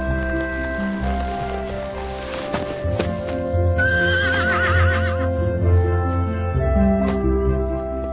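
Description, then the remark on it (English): A stallion neighs and whinnies loudly, its shrill call wavering midway, while hooves clip-clop underneath and a steady tonal drone continues throughout. “Done taming a wild honeymoon stallion for you guys.”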